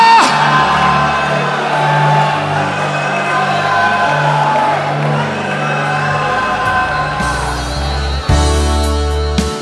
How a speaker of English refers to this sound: Lift your hands, give three more shouts to Jesus. Hallelujah!